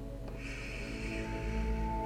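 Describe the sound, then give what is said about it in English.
A slow, steady breath drawn in through the nose during a breathing exercise, a soft airy hiss lasting nearly two seconds, quiet over a low background hum, with no talking. “Breathe in through your nose and breathe out through your mouth.”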